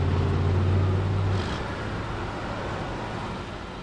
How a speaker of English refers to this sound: Imagine living next to a busy rail yard with trains and trucks in constant motion at all hours of the day and night.